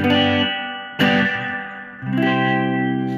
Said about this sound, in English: Here, just clean tones with reverb on the neck pickup. Here we go.